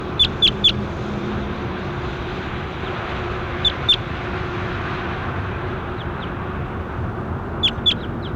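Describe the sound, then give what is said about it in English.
A recorded call of bird 27: short, sharp high-pitched chirps in quick pairs and triplets, repeated several times with pauses between, over a constant low rumbling drone like an engine. “That was bird 27.”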